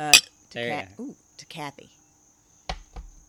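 Glasses clink together once with a sharp, bright ring at the start, followed by people talking and a duller knock near the end.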